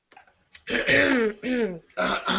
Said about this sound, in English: Let me clear the beer that's splattered. Let me clear my throat.